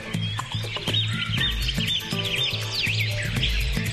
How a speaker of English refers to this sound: We have a lot to say about birds, but so do they.